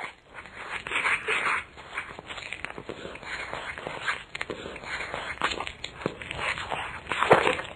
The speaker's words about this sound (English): That's someone munching on an apple, I think, right, Professor Cox? It is, mm-hmm.